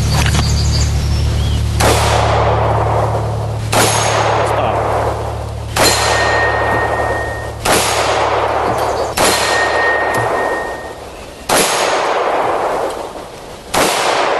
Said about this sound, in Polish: Ja sobie sam założyłem ograniczenie, że strzelamy tylko w soboty. Przez cały tydzień nikt tutaj o żadnym strzelaniu nie usłyszy. Niedziele są wolne, jedynie w soboty strzelamy.